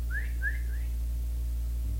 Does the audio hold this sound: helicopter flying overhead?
no